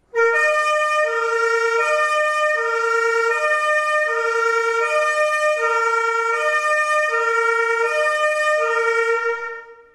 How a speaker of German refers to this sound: So klingt das Martinshorn.